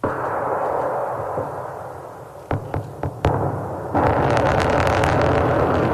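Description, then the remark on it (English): Recording released by the Russian Defense Ministry from a Russian military drill simulating a nuclear attack: a steady low rumble, then four sharp bangs in quick succession, followed by a loud, sustained crackling roar. No voices. “That sound released by the Russian Defense Ministry.”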